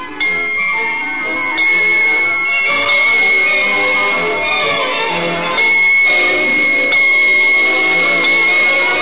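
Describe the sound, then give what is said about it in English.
Bells down the road ring out in a loud, continuous peal, fresh strikes every second or two layering over a sustained high ringing tone, with no voices. “Down the road, the bells sounded.”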